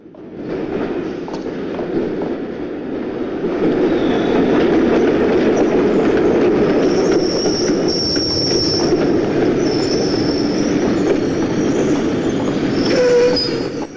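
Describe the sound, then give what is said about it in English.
A London Underground train rumbles loudly and steadily into High Street tube station, heavy low roar with intermittent high metallic wheel squeals cutting through as it slows alongside the platform. “They quickly slow their pace and walk along the platform as a train pulls in.”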